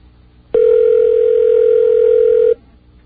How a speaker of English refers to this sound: I guess the phone doesn't ring in 7-Eleven very much, you know? Have you ever been in a 7-Eleven where the phone rings? People drop things and go crazy.